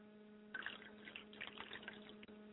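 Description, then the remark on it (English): Liquid is poured out as a libation in a steady, gurgling stream that starts about half a second in and runs to the end, fairly quiet, over a faint constant electrical hum. “I pour libations and send signatures out on the water for my mother's spirit, Yamanja, Ashe.”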